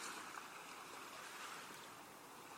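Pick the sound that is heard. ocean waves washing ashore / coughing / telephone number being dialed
ocean waves washing ashore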